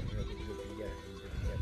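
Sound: goats bleating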